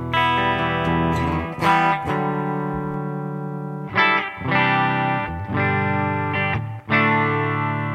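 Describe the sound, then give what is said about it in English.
A clean electric guitar on its bridge pickup rings out bright, twangy chords, strummed a few times with each one sustaining fully before the next, played alone with no talking. “That's my bridge pickup clean.”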